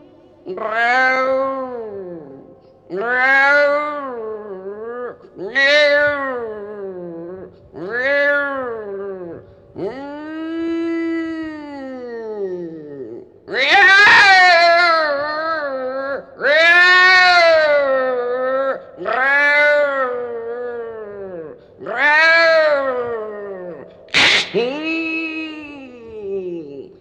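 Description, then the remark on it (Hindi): A voice imitates a cat pouncing on a mouse, letting out about ten loud, drawn-out yowls in quick succession, each rising and falling in pitch, with no talking between them. “चूहा पर बिल्ली झपटी, समझ गई? अच्छा, कैसे कैसे झपटी जानती हो?”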